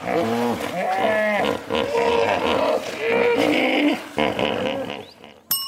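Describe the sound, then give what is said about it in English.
A hippopotamus calls loudly in a run of deep, honking grunts and wheezy bellows, the rough voice rising and falling in rhythmic bursts with only brief pauses and no talking. “Hippopotamus. Yeah, that's a hippopotamus.”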